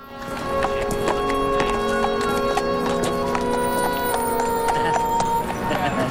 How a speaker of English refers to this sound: walks along leading the foal on a rein.